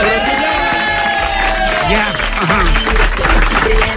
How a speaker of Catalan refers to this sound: Molt bé, la gent que està aplaudint que no és assajament.